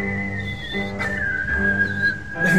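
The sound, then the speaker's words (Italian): Someone whistles a melodic tune as an intro jingle, a clear sustained pitch that slides and wavers over a few seconds, with steady background hum and low rumble underneath. “Vai onda, fischia.”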